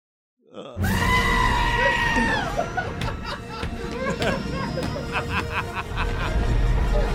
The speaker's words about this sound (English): Oh, I love goats. I love goats. There's the one.